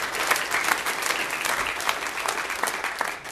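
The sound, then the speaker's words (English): An audience at FBC claps for the decorating team that put up the Christmas decorations, many hands overlapping into a dense, even wash of applause with crisp individual claps standing out, holding a constant loudness for a few seconds before easing slightly. “And so can we just give a hand clap to our decorating team?”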